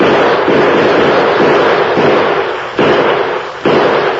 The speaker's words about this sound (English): Pump some more slugs out this window with me. I aim for the Lone Ranger to keep his distance as long as possible.